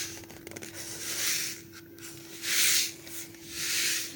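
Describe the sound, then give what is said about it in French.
A sand-filled instrument shushes in slow, swelling waves of soft hiss, three broad surges rising and fading like surf washing ashore, with faint scratchy ticks at the start and a low steady hum underneath. “du sable. Alors, oui, et tu as raison, on croirait entendre les vagues qui arrivent sur le bord de l'océan.”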